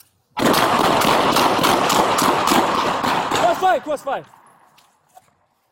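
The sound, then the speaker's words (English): A loud, sustained volley of rapid gunshots cracks for several seconds in a dense, overlapping barrage, then breaks off as shouting voices rise near the end; police bodycam footage of a fatal police shooting of an armed suspect at an apartment complex in Colorado Springs, Colorado. “Police said a witness pointed out where gunshots were coming from.”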